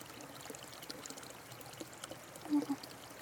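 rushing stream water

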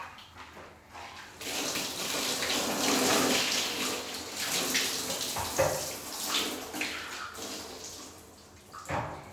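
water rinsing

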